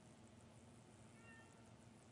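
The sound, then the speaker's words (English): A cat gives one short, thin meow midway through, fairly faint against a steady hiss of background noise, with no one talking. “Somebody was asking for the cats. Well, there's the cat.”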